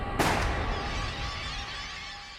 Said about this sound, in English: that's when Crawford heard a gunshot